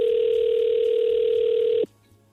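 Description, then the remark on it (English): A phone line's ringing tone while calling someone back: one steady electronic tone, loud, holds for nearly two seconds and then cuts off abruptly into quiet line hiss. “So we called him back.”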